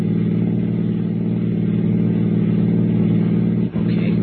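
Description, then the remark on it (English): A car engine roars loud at high revs as the car accelerates in pursuit of another car, a steady droning hum that holds for several seconds before a brief dip near the end. “I'll try to get up to him.”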